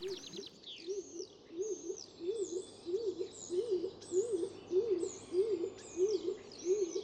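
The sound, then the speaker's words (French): A stock dove coos in a steady rhythmic series of soft, low, rolling notes, roughly two per second, in a park on the Île du Ramier in Toulouse, France, while other small birds chirp and sing higher up in the background. “À l'instant, on vient d'entendre le chant du pigeon colombin, ce petit pigeon plus petit que la palombe, et entre la palombe et la totale turque.”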